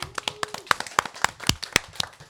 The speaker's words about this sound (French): Un tonnerre d'applaudissements pour Marius!